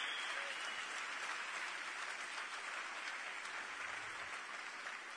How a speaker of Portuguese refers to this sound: Aplauda o Senhor com alegria. Aleluia! Aleluia!